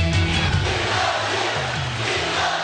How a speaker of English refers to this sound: It was just rally footage of people shouting that they love him, and the Fox and Friends team added, "We love you, we love you," knowing that Trump is watching that.